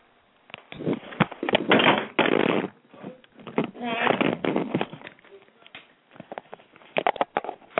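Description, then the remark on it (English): A phone falls and clatters, producing a jumble of sharp knocks, scrapes and rattling bursts that come in uneven clusters over several seconds, with muffled voices mixed in. “I said a phone fell.”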